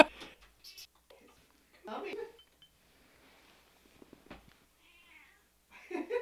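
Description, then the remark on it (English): A cat meows several times at a door in short, insistent calls to be let in, with quiet pauses between them and a faint clink in the background. “We're gonna have to stop and let the cat in.”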